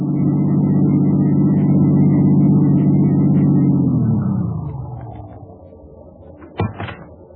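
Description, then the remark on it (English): A car engine rumbles steadily, then its drone drops in pitch and fades as the vehicle pulls away, leaving a quieter background broken by a couple of brief clunks near the end. “As soon as I dropped my passengers, I turned the car around and headed back to Lerner's place as fast as I could.”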